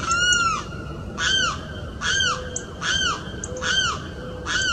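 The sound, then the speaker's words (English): A limpkin, far from its natural Florida habitat in a rain-soaked wildlife area, calls again and again, about six loud, harsh wailing cries spaced roughly a second apart, over a faint background hiss, with no talking. “The limpkin is far from its natural habitat in Florida”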